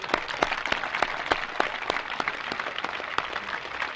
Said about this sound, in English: So we clap for Huey, and later for you.